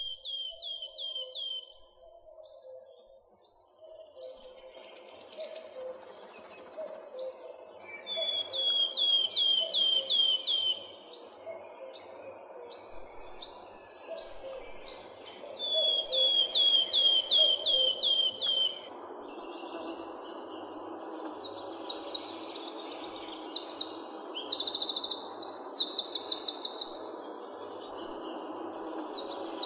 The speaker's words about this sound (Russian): Вот порхает с песенкой пеночка трещотка. Для трещотки еще характерен звонкий печальный свист.